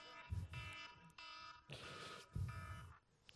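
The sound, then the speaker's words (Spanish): A small electronic alarm beeps in a quick run of repeated shrill bursts, each a bright buzzing tone with short gaps between. It sounds fairly soft and thin, with no talking. “¿Cuántos aman esta alarmita? Yo pensé que iba a sonar más duro, para serle sincero.”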